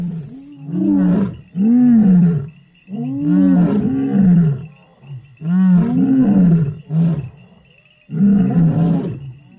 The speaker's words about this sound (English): Lions are social. They live in groups, and so it's very important they communicate with each other and know where everyone else is. And that's why lions roar.